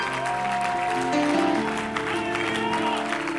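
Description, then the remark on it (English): An audience claps their hands together in praise of the Lord Jesus, a dense, continuous wash of applause, mixed with sustained musical tones and crowd noise throughout. “Put your hands together for the Lord Jesus. All across the building.”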